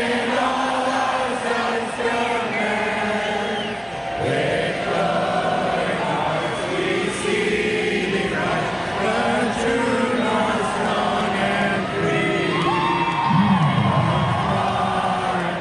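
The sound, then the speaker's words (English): A large crowd at a band's concert in Edmonton sings the Canadian national anthem, O Canada, after Canada won 3-2 in overtime at the Four Nations Face-Off, loud and continuous for the whole stretch, with scattered shouts and whoops rising out of the massed voices. “As soon as Canada won 3-2 in overtime, the crowd at the … concert broke out in our anthem.”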